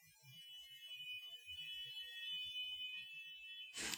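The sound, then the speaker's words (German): A fire engine siren sounds as a steady, unbroken high-pitched tone that holds for several seconds, ending in a short burst of noise. No one speaks. “Hast du die Feuerwehr mit der Alarmsirene aus Trick am Dienstag mitgebracht, oder?”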